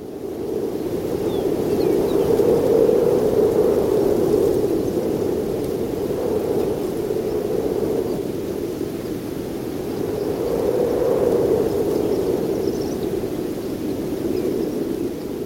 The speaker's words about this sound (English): This happens to be from New Mexico at a barbed wire fence. He recorded the sound of wind, that sort of breathy whistle changing its pitch as it changes speed. Microphone low to the ground. Here it is.